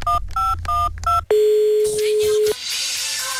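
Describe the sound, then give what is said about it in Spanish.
Four quick two-pitch keypad beeps of a phone dialing a mobile number for the radio show Las Mañanas Kiss, followed by a long steady ringback-like tone, then a muffled line with faint background noise. “Vamos a llamar al celular, licenciado.”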